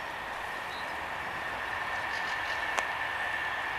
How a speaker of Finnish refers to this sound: Tänne ihan pelon lähelle tulee juna, lähiliikenteen juna.